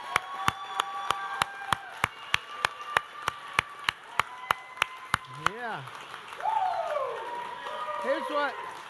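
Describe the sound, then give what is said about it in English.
The fathers in the audience, standing, clap for themselves in steady unison, sharp claps about twice a second for several beats, then the clapping fades into crowd murmur with a voice calling out over it. “They just started applauding for themselves.”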